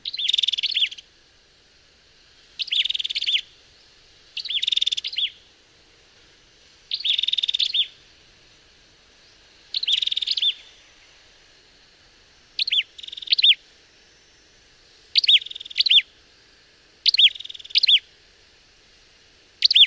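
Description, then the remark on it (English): Ashy tailorbird calls from Malaysia ring out in short, loud, high-pitched bursts, repeating at roughly regular intervals of a couple of seconds, some bursts doubled, with no talking. “Ashy Taylor birds from Malaysia.”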